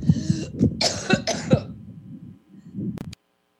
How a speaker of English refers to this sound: Let me clear my throat.